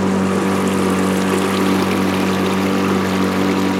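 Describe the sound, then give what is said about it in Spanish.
A small boat's engine drones steadily and loudly while navigating the Punta Gorda river basin, its low hum holding constant with harmonic tones and a broad wash of noise, like an outboard motor pushing along on water. “Ahora navegamos la cuenca del río Punta Gorda.”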